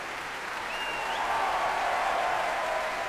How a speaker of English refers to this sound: As the applause continues here at the Albert Hall tonight, I shall bid you a good night